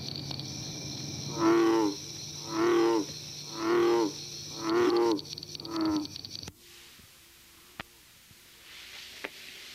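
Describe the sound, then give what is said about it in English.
A bullfrog gives five deep, resonant croaks in a slow steady rhythm, loud, over a constant high background chorus of northern cricket frogs and bronze frogs, then falls quiet leaving faint clicks. “As do all of the remainder of the frogs to be discussed, the bullfrog calls primarily in the spring and summer months.”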